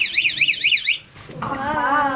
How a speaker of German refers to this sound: Wir sind am Grubentelefon 1 mit der Gruppe angelangt. Und machen jetzt quasi einen Test. Kannst du mal den Alarm auslösen? Achtung.